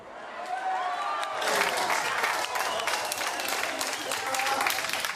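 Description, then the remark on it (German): Scientists in the Rosetta mission control centre clap and cheer at the news that the Philae lander has touched down on the comet: scattered applause swelling after a second into a dense, sustained roar of clapping with excited voices and whoops mixed throughout. “Der Jubel der Wissenschaftler im Kontrollzentrum.”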